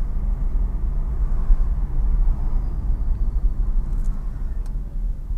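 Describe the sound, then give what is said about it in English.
A car cruising slowly at 30 kilometers an hour, with a steady low road and engine rumble and a thin, faint high-pitched whine drifting above it. No one speaks. “Can you hear the whining?”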